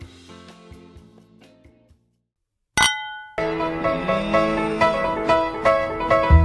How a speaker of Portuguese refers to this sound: Brinde história? Tchim-tchim. Tchim-tchim.